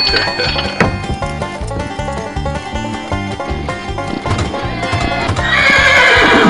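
Hooves clip-clop in a steady rhythm throughout as horses are rounded up, and a loud horse whinny rises near the end over the continuing footfalls. No one speaks.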